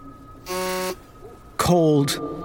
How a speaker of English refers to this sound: And when my phone starts buzzing again as I climb away from the dump site, this time I ignore it. In the middle of the night, my phone won't stop buzzing.